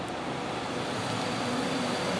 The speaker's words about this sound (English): Sorry, truck.